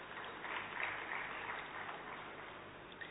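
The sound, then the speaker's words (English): A crowd claps for the organizers of a gathering at a holy place in a dense, continuous round of applause that holds an even loudness throughout, with no voices over it. “So I would like to request you to give a big round of applause for the organizers.”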